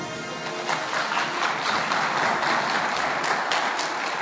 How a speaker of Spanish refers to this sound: Una breve mención, pero con mucha emoción, y un aplauso al final para todos ellos, por favor.